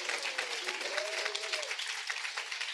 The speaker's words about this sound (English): She's also part of the group China is Not Our Enemy. Please give her a big applause.